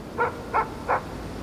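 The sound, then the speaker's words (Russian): A dog barks three times at an even pace, each bark short and fairly muffled, over a quiet background with no voices. “Лай пса.”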